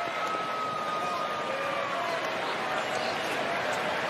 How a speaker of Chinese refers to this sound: 然后呢李正厚的爸爸李宗范呢被现场的这个播音介绍给球迷，介绍给现场球迷呢，大家为他鼓掌喝彩的情况啊，长度18秒，一起来听。